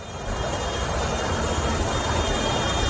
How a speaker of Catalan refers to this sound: Avui els pagesos s'han manifestat amb tractorades per tot Catalunya.